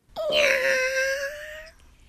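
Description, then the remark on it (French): A person imitates a cat's meow with one long, sustained wailing tone lasting about a second and a half, loud, with no other sounds around it. “C'est toi, mais c'est toi qui essaie d'imiter un...”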